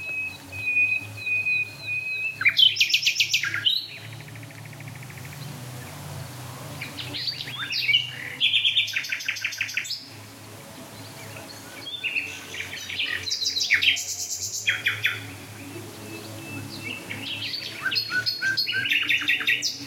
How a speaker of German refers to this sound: Also wir hören jetzt gerade, ich höre jetzt gerade vier Nachtigallen gleichzeitig. Fünf mit der im Hotspot jetzt plötzlich.